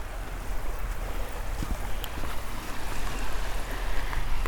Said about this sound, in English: Anyway, I hope you found that interesting and enjoyed the nice sounds of the beach with the occasional seagull and the waves and everything. Simple pleasures.